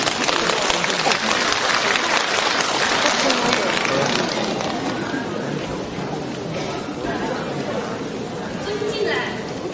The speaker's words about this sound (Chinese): 请大家掌声欢迎。